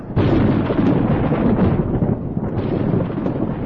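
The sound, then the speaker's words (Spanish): A loud rumble of thunder from a cloud-to-ground lightning strike during a thunderstorm in Florida rolls on steadily for several seconds, deep and booming with a harsh crackling edge, heard on its own with no voices. “Una tormenta de buen tamaño puede producir 25 relámpagos de las nubes a la tierra en un espacio de 10 minutos.”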